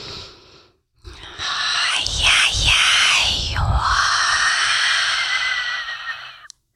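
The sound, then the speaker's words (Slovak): A voice imitates blowing wind, exhaling a long, breathy hiss that swells and dips in a few gusty waves over about five seconds, after a short breathy intake through the nose. “Môže byť vetrik rôzny, áno? Máme veľa druhov vetra.”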